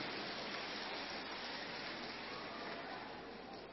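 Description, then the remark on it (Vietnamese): A crowd claps in sustained, dense applause, a steady crackling wash of many hands that holds at an even level for several seconds with no voices on top. “Vỗ tay một tràng pháo tay lớn để tự hứa với chính bản thân mình.”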